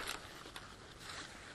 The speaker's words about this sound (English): And I'm Trying to zip this back up. And then I'm opening the case, which, as I probably have mentioned, has a zipper on the right when it's closed.